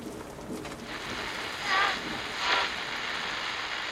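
A heavy rain shower pours down in a dense, steady hiss, swelling briefly twice as gusts push the downpour harder, with no voices.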